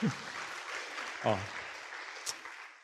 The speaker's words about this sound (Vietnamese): Tiếng vỗ tay của quý vị là dành cho cha tôi, đúng không?